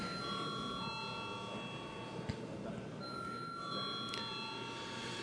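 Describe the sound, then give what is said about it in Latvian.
A parliament voting call bell rings steadily for several seconds before deputies vote on sending a bill to committee, a sustained electric tone over a low hum, with a couple of faint clicks and no one speaking. “Lūdzu zvanu.”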